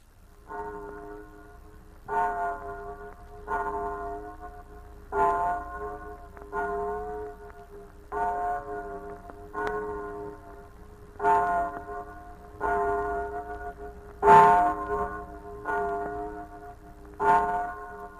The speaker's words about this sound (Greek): Και τότε ακούστηκε από μακριά το ρολόι της πλατείας Βορτοσαυρίνας Γλυκερίνας που χτυπούσε μεσάνυχτα.